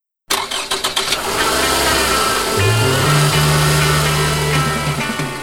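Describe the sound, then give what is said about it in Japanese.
A Toyota Estima 2400 minivan engine cranks over with a rapid stuttering starter, catches, and settles into a loud, steady idle with a low hum that rises slightly partway through, with no talking. “今日のラッキーエンジン音はトヨタエスティマ2400だそうです、社長。”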